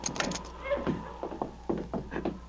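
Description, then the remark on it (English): A cabin door being opened as two outlaws carry a tied-up man inside: a series of short creaks and wooden knocks in an uneven rhythm, moderately loud, with faint voices murmuring underneath. “Get that door open.”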